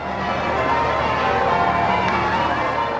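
Church bells ring out in a dense, continuous peal, loud and washing together rather than sounding as distinct strikes, over a steady hubbub of a large outdoor crowd, welcoming the Queen's royal barge joining a river pageant of over 1,000 boats on the River Thames in London for the Diamond Jubilee.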